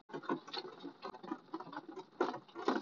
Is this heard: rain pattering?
yes